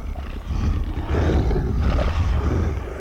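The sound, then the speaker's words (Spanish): Wolves roar and snarl together in a loud, continuous, rumbling growl that swells after a brief dip and holds steady for several seconds, with no talking. “¡Atacar, lobos!”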